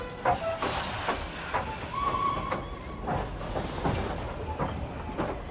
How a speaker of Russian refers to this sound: Поезд расходился, мотаясь, качаясь, потом стал нести ровно на всех парах.